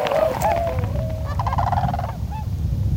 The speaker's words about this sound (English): Those are tundra swans. Tundra swans. They used to be called whistling swans.